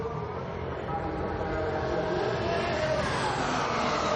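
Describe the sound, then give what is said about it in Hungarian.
Kimi Räikkönen's Ferrari Formula One car screams through a flying lap in qualifying at Sepang, a loud continuous roar with a high-pitched whine that climbs gradually as the revs build over about four seconds. “előtte azonban figyeljük Räikkönent, aki mért körön van a Ferrarival.”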